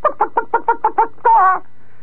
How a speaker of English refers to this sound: And I could hear the chicken go, bah, bah, bah, bah, bah, bah, bah, bah.